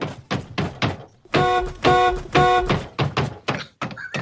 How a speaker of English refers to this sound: But anyway, here's the best car beating on Film Sack history. So we've ever, I don't know if we've ever had a good car beating, but this is a beating of a car that I really enjoyed.